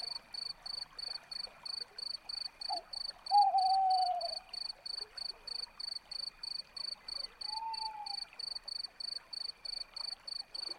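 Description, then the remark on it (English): An owl hunting for prey in a forest at night gives two drawn-out, slightly falling calls a few seconds apart, over a steady pulsing chorus of crickets. “A hunting owl calls out as it searches for prey.”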